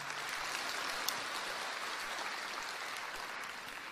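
Steady audience applause fills the whole four seconds, a dense, even wash of many hands clapping at a fairly loud level, with no voices heard over it.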